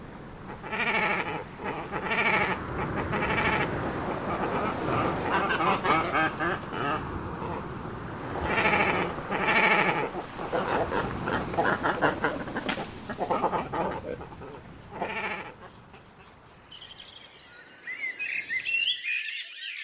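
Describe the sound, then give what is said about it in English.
Harsh, guttural cormorant calls croak and bleat over and over like goats, loud, several birds overlapping almost continuously before higher, thinner chirps take over near the end. “When next you're by the river or sea, listen out for the cormorant.”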